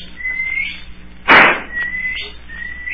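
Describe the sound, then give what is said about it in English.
Several long, steady high-pitched whistle blasts sound as a last signal, with a loud sharp thump breaking in between them; no one speaks. “That's the last signal.”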